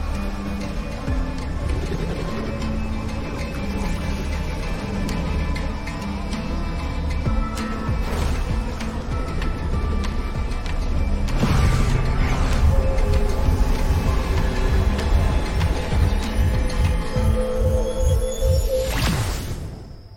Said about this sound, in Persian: صدای انفجار شنیدی میلر؟ گزارش بده. یه مخزن رو تو طبقات پایین منفجر کردن که حواسمون از قصر پرت بشه.